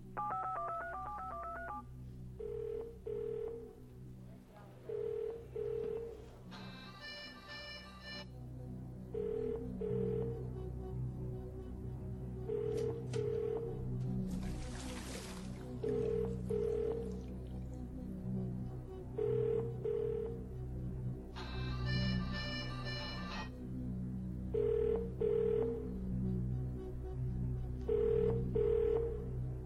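A quick burst of telephone keypad dialing tones as someone phones a friend, followed by a steady pattern of repeated ringing pulses over a low, droning background bed, with a couple of brighter trilling rings standing out.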